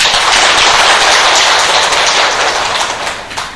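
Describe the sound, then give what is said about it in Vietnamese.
A gathering of about 58 Buddhist lay followers at a retreat claps steadily in a dense, sustained wash of applause that stays loud and even from start to finish, with no voices over it. “Như vậy thì xin tán thán quý vị Phật tử, chàng pháo tay.”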